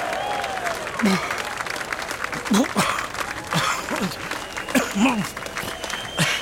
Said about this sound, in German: Aber trotzdem, Leute, 6 Chilischoten hintereinander. Das ist schon ordentlich. Ein kleiner Applaus, bitte.